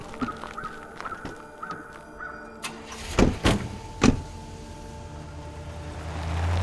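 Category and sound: vehicle, truck driving away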